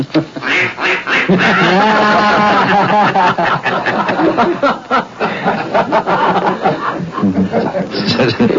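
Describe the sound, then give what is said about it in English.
A person imitates a duck call with a rapid, nasal run of quacking calls, loud, continuing for several seconds with brief chuckling mixed in. “he wouldn't come up for $10 for a duck call”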